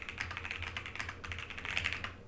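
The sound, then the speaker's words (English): Rapid keyboard typing with clicky keys and a deeper space bar thump mixed in, a steady stream of keystrokes with no voices. “I mean, listen to this space bar.”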